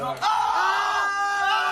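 Several bar customers in Oviedo, Spain, scream and yell together, loud, in one sustained burst that starts abruptly and carries on for under two seconds, as they take an electric shock.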